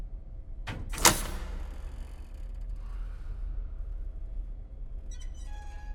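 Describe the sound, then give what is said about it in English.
A guard opens a metal morgue compartment door in an autopsy room with a sharp latch click and a brief sliding scrape, followed by a low hum and faint rattles. “His brow furrowed, the curly-haired guard straightens and opens the door.”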